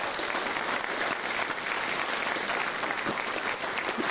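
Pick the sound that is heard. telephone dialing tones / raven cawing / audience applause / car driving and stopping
audience applause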